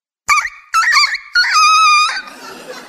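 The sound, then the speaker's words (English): A rooster crows once, loud: two short choppy notes and then a long sustained wavering call that trails off into a faint, noisy echo. “You needed a cock crow about now.”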